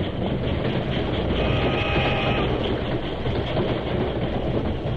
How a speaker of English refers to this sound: The Lone Ranger drew Silver to a sharp halt and turned abruptly as the train swept past.